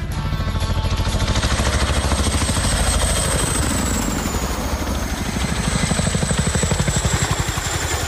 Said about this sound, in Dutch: Oh nee, het is een vrachtauto.